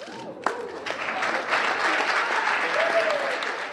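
A crowd of students claps steadily, the applause swelling after a few scattered first claps into a dense, sustained roar of hands that holds at full strength throughout.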